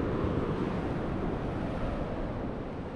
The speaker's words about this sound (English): And she also got some very nice sound of water going over the falls, where you can hear the falls kind of in the distance and the trickle of the water nearby.